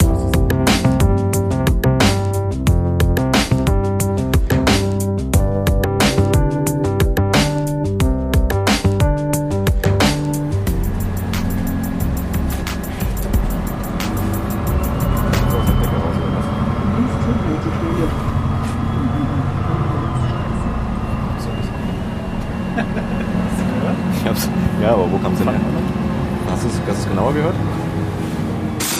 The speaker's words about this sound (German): Schöne Aktion, ehrlich gesagt, immer wieder mit dem Bus zu fahren, um den Sound zu bekommen.